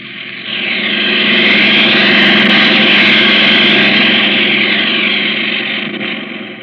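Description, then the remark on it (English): A steady, loud airplane engine drone rises in, holds a dense roaring hum, then eases away toward the end, with no voices. The plane is in flight from New York toward Black Rock, off the coast of Labrador. “I hope we reach it before it gets too dark to land the plane.”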